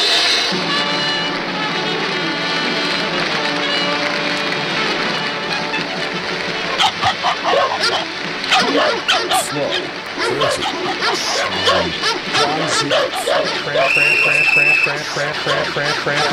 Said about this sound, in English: this circus now has the honor of presenting to you the unique and world famous attraction, …